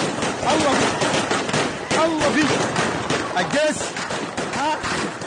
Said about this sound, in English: So what you're hearing, that's automatic gunfire.